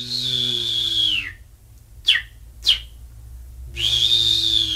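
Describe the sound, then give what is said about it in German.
A Greek bird catcher whistles in imitation of bird calls to lure birds into his net: a long, high sliding whistle, two short sharp chirps after a pause, then another long descending whistle, clear over a low background hum. “Dieser griechische Vogelfänger imitiert die Rufe jener Vögel, die gut schmecken, und lockt sie so in sein Netz.”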